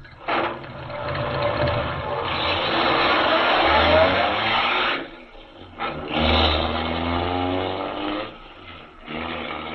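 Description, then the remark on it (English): A car engine revs hard and roars as the car speeds away from an inn, surging loudly, dipping briefly, then building again to a strong, sustained drone with no voices. “Speeding away from the inn, Major Carroll is unaware that the wily Gottfried has sent him on a false trail, and that a few hours' delay in discovering the secret tunnel under the inn may mean the difference of life or death to Superman.”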